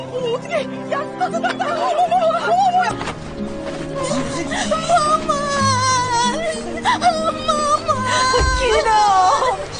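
A child cries and whimpers in wavering, drawn-out sobs that rise and fall, steady throughout, with a low background hum beneath.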